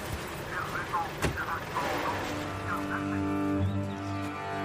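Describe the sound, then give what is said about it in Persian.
A komiteh (committee patrol) car's engine approaches and settles into a steady low idle as the vehicle pulls up, with a sharp knock early on and muffled voices in the background. “یه ماشین کمیته از راه میرسه.”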